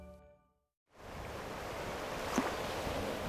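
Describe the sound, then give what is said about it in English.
Pacific Ocean waves wash steadily onto the beach where the Carmel River flows into the sea, just south of the Monterey Peninsula, a constant broad roar with one brief swell partway through, following a short musical tone and a moment of silence. “The Carmel River flows into the Pacific on a beach just south of the Monterey Peninsula, where figures in straw hats haul out easels and paints to capture the picturesque landscape.”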